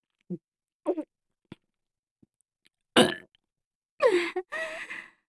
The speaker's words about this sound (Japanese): 下品なゲップじゃ。